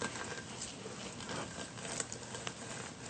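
A lime cut in half is squeezed by hand for its juice, before the juice goes into a blender for guacamole, with a steady wet crackle and faint dripping patter that runs for about three seconds. No one speaks.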